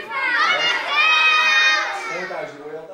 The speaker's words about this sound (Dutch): Wie kan er harder schreeuwen, Voorthuizen of Barneveld? Wat denken jullie? Schreeuw maar. Voorthuizen of Barneveld?